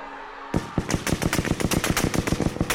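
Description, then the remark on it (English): A brief hush gives way to a rapid burst of automatic gunfire: sharp, loud cracks repeating in quick, steady succession until the end, with no voices, as an SS man opens fire on columns of marching people. “An SS man opened fire on the columns.”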